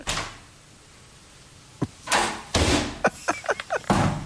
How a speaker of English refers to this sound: Did you know that that's... This is Julius, the snake. Julius the snake. Yeah. Mm-hmm. Opening the door.